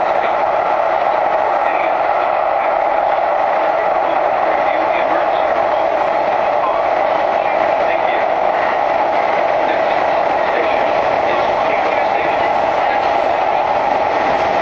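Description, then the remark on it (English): A loud, steady roar of a Blue Line train running through an underground tunnel, with constant rail and wheel noise filling the whole stretch and a faint voice buried beneath it; the train has different wheels than the subway. “The reason it was so loud is because we were underground, and these trains have different wheels than the subway does.”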